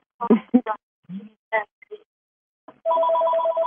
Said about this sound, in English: Can I grab that phone?